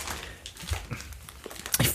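Someone chews a crunchy snack, producing a steady run of irregular, crackly crunches and soft mouth sounds with no talking, growing a little louder toward the end.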